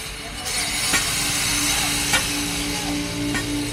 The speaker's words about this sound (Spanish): Sierras eléctricas, golpes de pico y pala. El pueblito de Insa, en lo alto de las cordilleras del suroeste colombiano, estrenará muy pronto un nuevo puesto de policía y una alcaldía totalmente renovada.